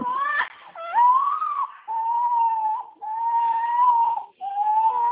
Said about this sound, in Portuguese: Vixe, o bebê tá gritando aqui.